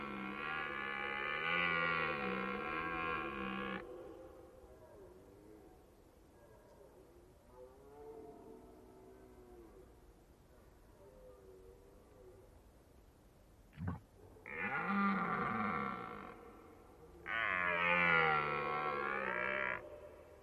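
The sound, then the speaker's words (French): A red deer stag bellows in the rut: three loud, drawn-out, guttural roars, a long one first, then two shorter calls close together after a quiet stretch. “Ben, on n'écoute même plus bramer, c'est plus intéressant.”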